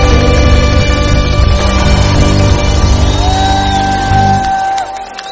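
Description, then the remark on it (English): A large crowd shouts, whoops and cheers loudly and continuously in rejoicing to God, with sustained tones ringing over the din before the noise drops off abruptly near the end. “Let the sound of rejoicing be. Clap your hands, all you people.”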